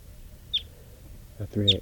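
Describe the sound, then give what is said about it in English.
A bird calls with two short, high-pitched chirps about a second apart; the second chirp overlaps a brief burst of a man's voice. “And the wild bird didn't come around.”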